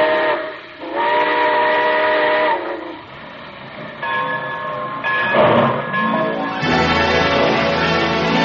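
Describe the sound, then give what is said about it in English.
A steam train's whistle blows in several long, loud, chord-like blasts, each rising and falling, as the train pulls out, with a steady hiss of steam and rumbling rail noise underneath, without any voices. “Well, it looks as though we're ready to pull out.”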